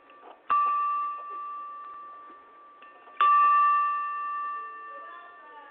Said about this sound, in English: Yeah, I'm right beside it. Okay, would you be able to ring the bell? I need to make sure it's ringing at the right frequency.